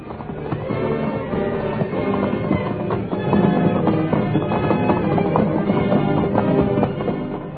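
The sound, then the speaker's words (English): Horse hooves, including those of the horse Silver, clatter over a rocky mountain trail in a steady, fairly loud stream of hoofbeats and scraping stones, continuing without pause for several seconds. “Once, when Standing Bear's horse lost his footing, his master's life was saved only by the quick action of White Fellow, Milton's powerful shoulders pushed the wiry little Indian pony back to safety.”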